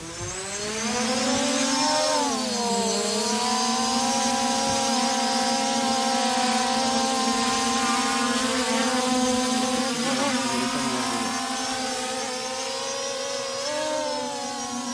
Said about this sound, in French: Là, le drone, il est en vol stationnaire, il avance un peu.